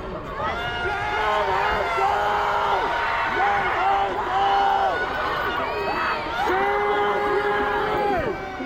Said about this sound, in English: Fairly quickly, they filled several buses with protesters. And as they filled them and drove by us, the protesters outside were cheering them and trying to give them support.